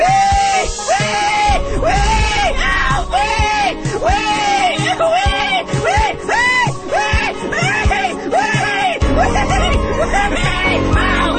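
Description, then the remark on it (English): A person lets out a rapid series of loud, high-pitched squeals, imitating a pig, each one rising and falling in pitch, continuing without pause for several seconds. “Squeal like a pig!”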